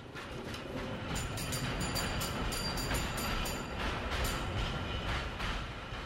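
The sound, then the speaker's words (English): An early electric tram, no longer horse-drawn and running on electricity, rolls steadily along rails: a continuous low rumble with metallic rattling and faint high squeals from the wheels, sustained throughout with no voices. “We call the new trams the elektrische because they're no longer horse-drawn trams. They run on electricity.”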